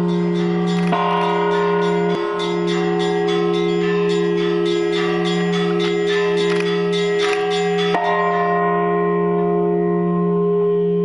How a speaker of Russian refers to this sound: Склоню смиренно низко, когда сверкнут под солнцем купола и зазвенит над городом Симбирским зовущие к добру колокола.